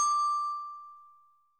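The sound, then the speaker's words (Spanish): A single clear bell chime rings out with a bright metallic strike, then its steady tone fades away slowly over about a second and a half, with no voices. The chime is a cue to repeat words in a French reading exercise. “Au son du timbre, relis les mots après moi.”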